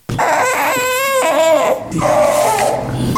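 A hungry baby wails loudly and continuously at breastfeeding time, the cries rising and falling in strained, wavering bursts with a brief catch for breath midway.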